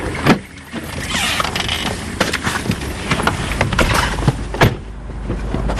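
A car driving along on the roughly ten-minute drive to the GAEC La Baie des Champs farm, heard from inside: a steady rumbling road noise with occasional thumps and rattles from bumps, fairly loud, with no one talking.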